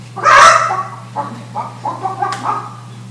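A hen lets out a loud, harsh squawk, then a string of short, evenly spaced clucks, over a steady low hum.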